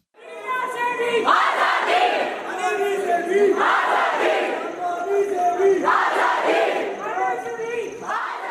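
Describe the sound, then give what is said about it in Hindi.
Hundreds of students at Hidayatullah National Law University in Naya Raipur, India, protesting for the past week, chant slogans demanding freedom in unison, loud and steady, repeating a short call-and-response phrase in a regular rhythm of about one every second and a half. “आजादी की मांग करने वाली ये आवाजें पिछले सप्ताह भर से नया रायपुर के हिदायतुल्ला नेशनल लॉ यूनिवर्सिटी में गूंज रही हैं।”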